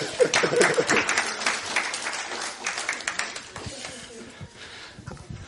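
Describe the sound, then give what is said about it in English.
An audience claps, a dense burst of many hands that is loudest at the start and then gradually thins and fades over several seconds. “Okay, give them a clap.”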